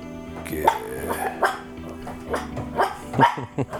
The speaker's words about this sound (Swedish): Vad är de? Är de Yorkshire Terrier? Ja. De är vakthundar.